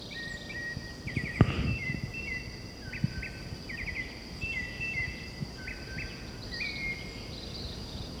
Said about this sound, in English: This is white chin thrush, presumably. I haven't seen the bird yet.